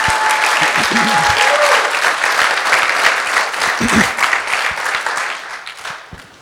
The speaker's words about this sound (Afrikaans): Okay, so kom ons gee vir die Here 'n hande klap en dan gaan ons uitbeweeg.